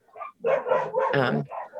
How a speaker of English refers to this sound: you can hear the wolves